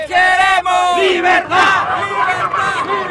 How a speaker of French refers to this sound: Alors pour l'instant, la foule reste bloquée à l'entrée du pont Tianditas, le pont frontière. Mais elle met la pression, elle chante, elle exulte.